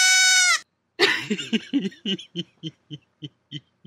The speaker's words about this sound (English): I tried making some samples that you guys would have loved. Here's my favorite one. Here's my goat one. It's the sound I make when I'm excited.